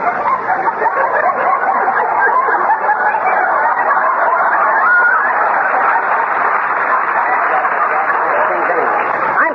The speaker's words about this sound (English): the chickens don't know what they're doing